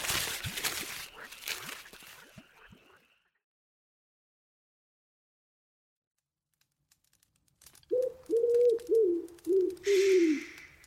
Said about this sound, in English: Little bird.